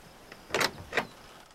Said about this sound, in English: He puts his hands on his hips and notices the little outhouse. He looks carefully around the small wooden building and opens the door.